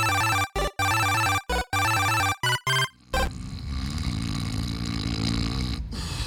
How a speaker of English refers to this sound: Does he always snore like that? No. Usually he's pretty loud. This time isn't so bad.